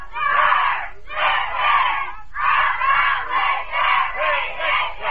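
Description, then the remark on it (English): A large group of young cadets in the ready room shouts their squadron slogan in unison, several loud, rhythmic bursts of chanted yelling with brief pauses between phrases, energetic like a rallying cry. “You cadets at home, try to yell louder than the cadets in the ready room.”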